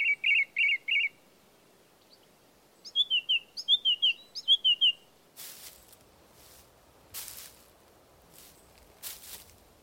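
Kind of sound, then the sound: bird, thrush singing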